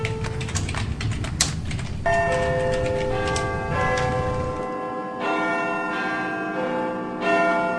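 A clock chimes with a run of bright, ringing bell tones that overlap and sustain, opening over steady ticking, then strikes repeatedly at an even pace, each stroke ringing into the next.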